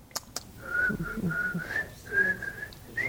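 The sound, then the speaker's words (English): A person tries and fails to whistle, a thin wavering tone broken into several short breathy stretches after two quick clicks, the pitch drifting slightly upward as they keep trying. “Same mouth, I breathe out the same way and no whistle.”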